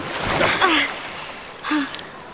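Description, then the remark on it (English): Water sloshes and splashes in two short bursts as a woman is helped up out of the water, with strained gasps and grunts of effort. “Let me help you out of the water”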